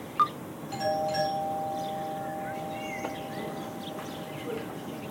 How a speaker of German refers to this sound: Wollen wir dann die Klingel betätigen? Ich klingle.